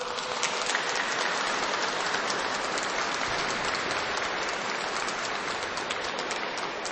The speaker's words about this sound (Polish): Tymi słowami bardzo gorąco i serdecznie witamy i pozdrawiamy wszystkich słuchaczy Radia Maryja, widzów telewizji Trwam, a nasze pozdrowienie przekażemy także poprzez nasze gorące oklaski, gorące brawa.